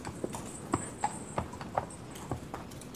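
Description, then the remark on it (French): The hooves of a horse-drawn carriage clip-clop in a French radio adaptation of Charlotte Brontë's Jane Eyre: a steady, uneven rhythm of sharp knocks, roughly eight or nine strikes over a few seconds, with a faint high whine and soft rumble behind them and no talking. “Je descendis de la voiture et ayant remis ma malle à l'aubergiste et payé le cocher, je me mis en route.”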